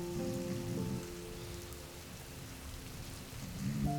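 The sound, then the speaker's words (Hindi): Heavy rain pours steadily with a dense, continuous hiss, drumming onto a surface, with a low tonal hum running underneath and no voices. “बारिश बहुत तेज होने लगी।”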